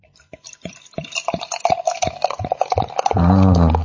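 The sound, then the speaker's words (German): A drink glugs out of a bottle in a quick series of sharp splashes, then settles into a steady, louder pour whose ringing tone rises as the glass fills. “Hab natürlich auch ein Glas bereitgestellt.”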